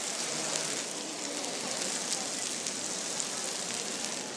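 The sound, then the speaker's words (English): Lower-fat burgers sizzle on a grill in a steady, bright hiss, broken by scattered small pops and crackles, continuous and fairly loud throughout with no voices. “We've got a lady here. Just they're sizzling away.”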